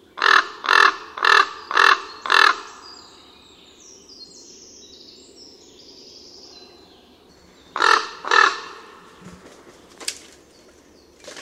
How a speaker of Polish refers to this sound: Krakanie kruka jest najniższe spośród wszystkich głosów wydawanych przez nasze ptaki krukowate. Są to dźwięczne, głębokie sylaby wydawane zwykle seriami po 5, 6 lub 7 z wyraźnymi przerwami pomiędzy nimi.